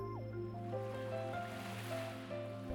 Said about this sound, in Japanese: あなたは今、海の中にいる。光の届かない薄暗い深海の中にいる。あなたの耳には泡の音と私の声だけが響き渡る。